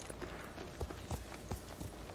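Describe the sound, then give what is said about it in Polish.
Horse hooves clip-clop at a steady walking rhythm, soft, with about half a dozen distinct hoofbeats over a low background hiss and no one talking. “O, znowu zaraz gdzieś spadniemy z koniem, słuchaj.”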